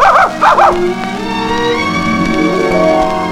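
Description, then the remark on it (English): A dog barks twice in quick succession at the start, short and fairly loud, followed by a steady tonal backdrop like music with no further barking. “The dog wouldn't play with him.”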